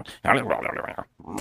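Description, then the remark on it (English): A person's voice imitates a dog's grumbling growl, a rumbling, mumbled vocal lasting about a second, followed by a brief pause and a shorter grumble. “That's what the dogs always do.”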